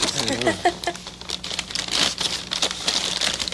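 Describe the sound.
A paper bag being turned inside out crinkles and crumples in a steady run of dry, crackly rustles, with a brief voice murmuring at the start.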